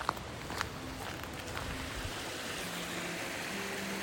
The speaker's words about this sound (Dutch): We zijn nog langs een paar mijnen gelopen. En er is overal water wat naar beneden komt.